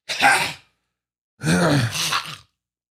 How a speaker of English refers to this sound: Let me clear my throat.